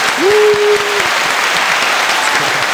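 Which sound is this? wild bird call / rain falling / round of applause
round of applause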